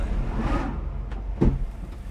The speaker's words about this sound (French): Et le bruit là qu'on entend, les booms, c'est les blocs de glace détachés des icebergs qui touchent la coque du bateau. Ouais, c'est nous qui les touchons, ouais.